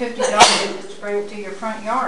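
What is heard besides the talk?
sneeze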